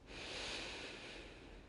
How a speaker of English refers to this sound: Breathing in.